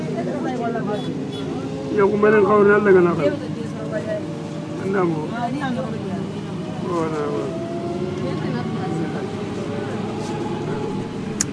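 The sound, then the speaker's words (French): A bus engine drones steadily from inside the vehicle in the streets of Bamako, its pitch climbing and dropping several times as the driver shifts through gears, with muffled voices and street noise in the background. “On entend bien le moteur, hein, d'ailleurs, quand il passe les vitesses, le chauffeur.”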